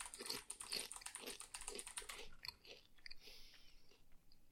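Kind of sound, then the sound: tool, pressing computer keyboard keys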